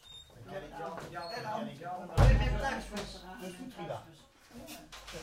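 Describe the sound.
A door bangs shut with a single heavy thud, its low rumble briefly swelling, while people keep talking before and after.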